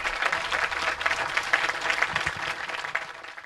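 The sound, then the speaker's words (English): Sustained applause from an audience after a talk at the Greenbelt Festival, a dense, steady patter of many hands clapping at an even level throughout, with no voices standing out. “Round of applause.”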